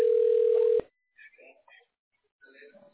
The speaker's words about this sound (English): Go ahead, man. Yeah, it's ringing.